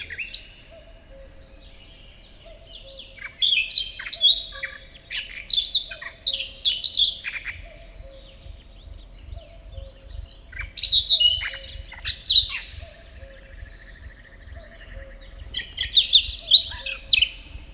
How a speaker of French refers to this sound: Parfois, c'est une profusion de chants, mais ici, c'est un solo qui s'impose au paysage, accompagné au loin de l'écho du coucou et d'oiseaux à peine audibles.